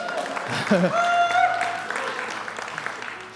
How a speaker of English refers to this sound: I was a little offended by the amount of applause, but okay, all right.